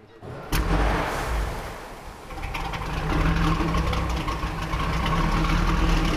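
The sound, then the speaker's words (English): The engine of a historic 16-ton, 48-foot speedboat at the Antique Boat Museum in Clayton catches with a sharp burst, then runs loud in a steady, deep rumbling roar that swells slightly partway through, with no voices. “The engine sounds one way when you're right next to the engine, and it sounds another way out the exhaust pipes, which, you know, on a boat like this, that's 25 feet apart.”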